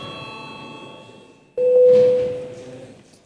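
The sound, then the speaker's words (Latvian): A parliament registration bell sounds in the Saeima, calling for registration of deputies' attendance: a sudden, loud electronic tone that holds steady for under a second and then fades, following a quieter ringing of higher tones. No one speaks. “Lūdzu zvanu.”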